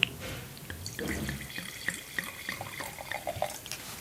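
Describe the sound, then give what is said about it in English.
Wine from a screw-cap bottle pours steadily into a glass for about four seconds, a gurgling trickle with small splashes and glugs, fairly quiet and heard on its own without any talking. “Sorry, I'm a bit heavy on the pour today.”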